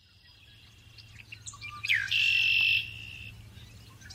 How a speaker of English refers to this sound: Red-winged blackbirds, sweet and pure, their songs piped up, trilling away into silence, rising again from that pool of quiet, sure, and silver pouring over and over into my ears.